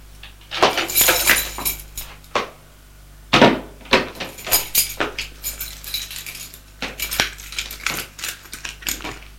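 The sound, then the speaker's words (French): Keys jingle and scrape in a lock, followed by a few metallic clicks and knocks as a woman unlocks a door with a duplicate key and pushes it open, fairly loud with no talking. “Elle ouvre la porte, un peu émue d'entrer dans l'intimité de son fils.”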